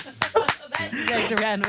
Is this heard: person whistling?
no